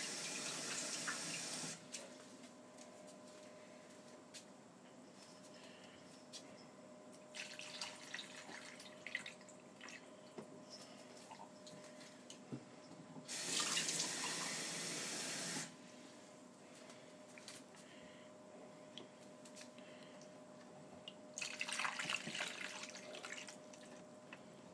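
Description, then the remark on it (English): Water is poured into a pot already holding cheap red wine, in four separate splashing bursts, each lasting a couple of seconds with quiet pauses between, over a faint steady hum. “Some water.”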